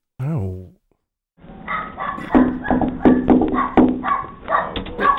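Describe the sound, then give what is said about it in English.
A dog at the door gives a single short, tonal bark at the start, followed by a pause and then a stretch of people talking in a tinny, muffled-sounding voice as a door-to-door representative from Empower greets the household. “Hi, sorry to disturb you and your dog.”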